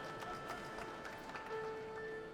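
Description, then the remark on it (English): A concert audience applauding Yuri Turchinsky, leader of the BBC Philharmonic, holding his violin: steady, dense clapping that holds an even level throughout, with a few faint sustained tones humming beneath it. “And that's applause for Yuri Turchinsky, holding his violin, leader of the BBC Philharmonic, and using his left hand to tune using that Steinway piano that Stephen Osborne's going to be playing.”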